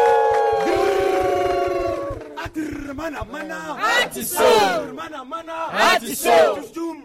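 A show's audience cheers and shouts loudly for a guest, voices overlapping in rising whoops and yells that surge in waves for several seconds without letting up.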